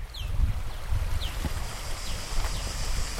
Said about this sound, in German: Ah, der Sound der Natur. Vögel zwitschern, Grillen zirpen, Blätter rascheln, ein Fluss rauscht in der Ferne.